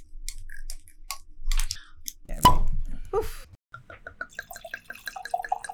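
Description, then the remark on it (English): A few squeaky, scraping twists lead to a single hollow pop as the cork comes free from a bottle of 2016 Palma Carolo Malbec from Polenta Estate, Argentina, followed by a quick rhythmic run of glugging plops of wine pouring out. “But I think more importantly, let me pull the cork out and then we can have a taste.”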